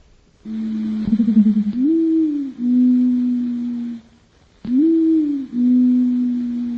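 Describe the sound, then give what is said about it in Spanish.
A reconstructed dodo call modeled on a pigeon: a low, droning, horn-like hoot repeated in two phrases, each swooping up in pitch then holding a steady buzzy tone, with no talking. “Y como era un pariente de la paloma, pues hemos tomado como base el sonido de esta y hemos hecho el que creemos que es el primer intento de reconstrucción del canto del dodo.”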